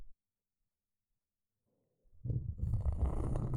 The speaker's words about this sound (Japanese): ゴリゴリという音が、きっと耳に心地いいことでしょう。さっきはこの音、大好きでございます。今日はいつもより厚めのコルクコースターですので、初めて聞く音。